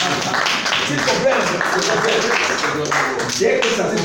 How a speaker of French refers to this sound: Est-ce qu'il y a des jeunes qui peuvent applaudir?